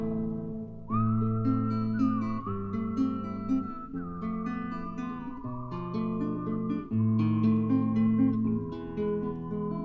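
A clear, sustained whistled melody glides and wavers over steady instrumental accompaniment, carrying the tune prominently for most of the passage without any singing or talking.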